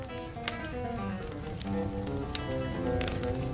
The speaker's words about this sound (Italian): Accucciata vicino alla piccola stufa a pellet, ascolto il rumore del fuoco, il focolaio.